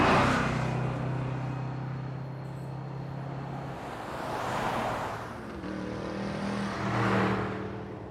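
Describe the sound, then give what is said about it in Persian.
The speaker's own car: its engine hums steadily, then revs up in two rising surges as the vehicle pulls away, loud, with no voices. “یه جا که وایستادن باقی راهو با ماشین من میریم.”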